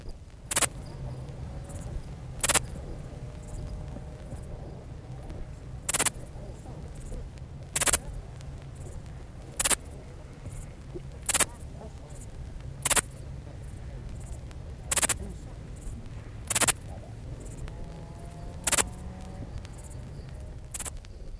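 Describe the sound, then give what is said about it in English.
Two male dark bush crickets in a field in Dorset trading short, sharp, high-pitched chirps against each other, about a dozen in all, spaced a second or two apart over a steady low outdoor rumble. “And here in a field in Dorset are two males of the dark bush cricket chirping away against each other, rather like two songbirds singing against each other.”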